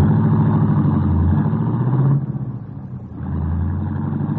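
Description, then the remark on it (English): A cab's engine hums loudly in late midtown city traffic as it heads to the Bismarck Hotel, its low drone steady, easing off briefly midway before revving back up. No one speaks. “Craven felt better as the lights of the city grew brighter and the sound of the late midtown traffic met his ears.”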